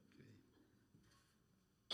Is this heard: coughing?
yes